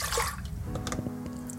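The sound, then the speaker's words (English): Milk is poured by the cup into a pot for making bannock, a brief splashy gush at first, then settling into a softer trickle with a faint metallic ring and a few light clinks. “Pouring the milk in cups into the pot.”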